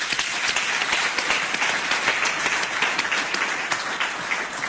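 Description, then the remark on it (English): A crowd applauds steadily for the company Telkom at the Chairman's Conversation event, many hands clapping in a dense, sustained wash of claps at an even, fairly loud level throughout, with no voices standing out. “Shall we please give Telkom a round of applause?”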